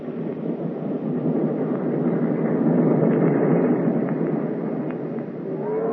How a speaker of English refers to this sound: I must have smoked 50 cigarettes as we sat and listened to the blast of the whistle and the hum of the wheels over the rail.